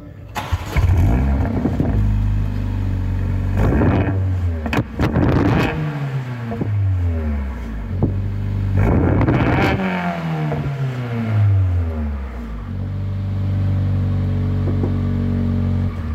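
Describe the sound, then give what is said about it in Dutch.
A powerful Mercedes car engine revs hard several times, its pitch climbing and falling back, with sharp exhaust pops and crackles between revs. Loud, with no talking. “Alleen voor die klappen lijkt het me heerlijk om door een dorpje te rijden. En dan af en toe zo'n knettertje er vanaf.”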